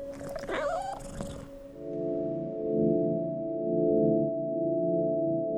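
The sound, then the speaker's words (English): A single drawn-out, wavering cat meow rings out fairly loud for about a second, then fades into a steady, low droning hum that continues to the end. “But then we had a cat, so I just kind of thought, "Oh, it must have been the cat."”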